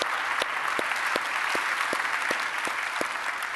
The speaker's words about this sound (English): And so I'm just going to ask you by applause, would you help me just welcome each other for all the different campuses that are joining us right now? Thank you for being with us.